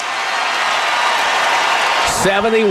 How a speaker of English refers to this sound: Grabbed by Westbrook, who travels, no call, scores, and gets an and one. And the crowd here is going crazy, and the Warriors are in deep trouble.